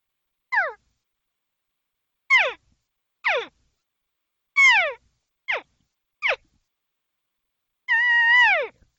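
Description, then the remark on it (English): A cow-and-calf social mingling call: seven short, high, nasal mews that slide downward in pitch, spaced irregularly, ending with a longer, steadier, slightly wavering call. No talking. “Here's a normal social sound you'll hear from cows and calves alike.”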